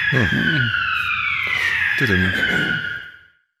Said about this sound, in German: Ist der Feueralarm? Ist das Feueralarm?